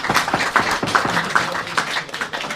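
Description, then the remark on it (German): A live audience applauds together, a dense, steady wash of many hands clapping with a faint rhythmic pulse, fairly loud, with no one talking over it. “Das ist, glaube ich, absolut richtig und deswegen absolut richtiger Applaus.”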